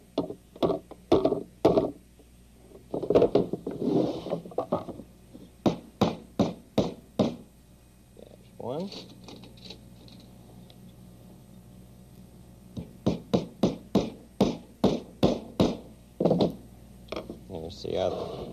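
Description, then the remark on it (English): A hammer drives nails into wood to hold pieces in place, in three bursts of sharp, evenly spaced knocks, five or more blows each, with a person talking briefly in the pauses between them. “See, now it stays up. There's the hammer.”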